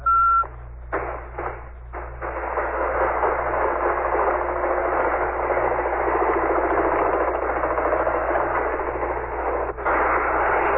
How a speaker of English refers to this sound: Can you hear the helicopters making another pass? This apparently is the move that we've been expecting. I'm glad you can hear gunfire.